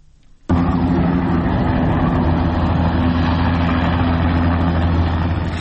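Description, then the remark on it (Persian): A helicopter landing at Behesht-e Sakineh, reportedly bringing in special forces and police: its loud, steady roar cuts in abruptly after a brief quiet start, holding a constant low drone with rumbling tones for several seconds, with no voices. “اما هلیکوپتری فرود اومده در بهشت سکینه که صدای اون بسیار واضح شنیده میشه.”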